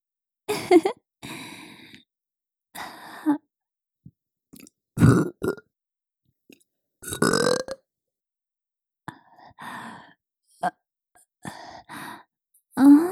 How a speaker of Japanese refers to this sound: ママのゲップ、甘くて臭くていい匂い。